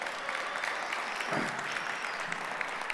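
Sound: audience hand clapping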